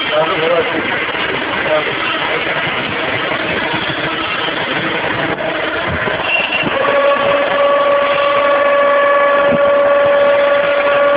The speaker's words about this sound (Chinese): 那么整个收油系统。这个收油过程呢就全部结束了，啊，可以看到这个排气阀还在不断的排出大量的气体。